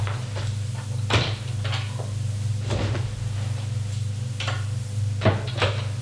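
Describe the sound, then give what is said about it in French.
A wardrobe door is handled as a leather jacket is put away in it: a few sharp wooden knocks and clicks as it opens and shuts, with softer rattles between, over a steady low hum and no voices. “Elle quitte sa veste de cuir qu'elle va mettre dans son armoire.”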